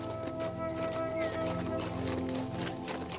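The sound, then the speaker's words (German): Steady, rhythmic clip-clop of horse hooves striking a stony path in the distance, a continuous even beat running the whole way through at moderate loudness, with no talking. “Und in der Ferne hörst du das rhythmische Klappern von Pferdehufen auf dem steinigen Weg, vermischt mit dem leisen Zirpen der Grillen.”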